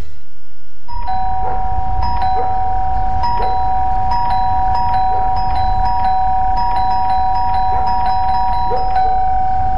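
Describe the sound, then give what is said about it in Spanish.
An electronic doorbell rings again and again in an advertisement for the Sodimac cyber sale, bright chiming tones repeating in an insistent, slightly uneven rhythm over a steady low rumble, starting after a brief moment of quiet. No one speaks. “El cyber de Sodimac está tocando a tu puerta y tu casa lo sabe.”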